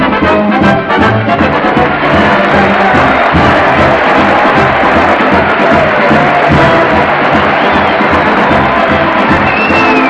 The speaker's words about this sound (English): Well, the band's playing, the crowd's cheering, and here comes Fred Allen leading a new big colorful parade to the old town hall. So come on, folks, let's march along with them.